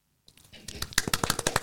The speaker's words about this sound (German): Applaus!